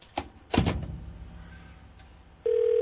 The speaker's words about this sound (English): We're ringing his cell phone now. We'll see if we can get a hold of him.